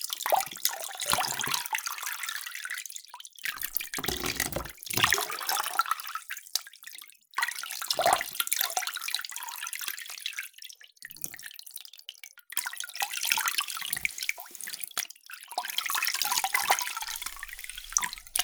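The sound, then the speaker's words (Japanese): Water is poured over a person's head to wet the hair before shampooing during a head spa treatment given without a shower, splashing in broad bursts, each lasting a few seconds and separated by short pauses, with dripping and trickling between pours. No one speaks. “まず、髪を濡らしますね。”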